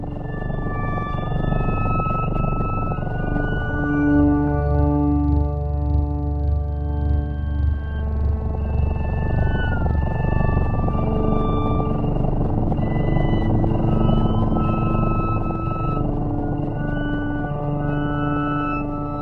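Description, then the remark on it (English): Slow, steady instrumental music composed specifically for cats, with sustained, layered tones and gentle sliding pitch glides, playing continuously at an even volume with a soft low hum underneath and no voices. “is also working on music tuned to other species”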